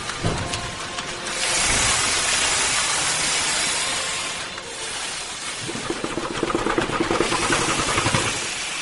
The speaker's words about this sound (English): Two steam engines pound away, hissing clouds of vapour as the gleaming steel pistons punch remorselessly down, again and again and again. This is an 1820s beam engine. It was built for a local sawmill in Macclesfield